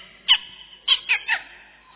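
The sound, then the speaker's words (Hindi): A voice mimics a small bird chirping as birds wake in the morning: four short, high, bright chirps, one alone and then three in quick succession, clear with no talking. “पशु पंछी उठ रहे हैं, पशु चिड़िया बोल रही है,”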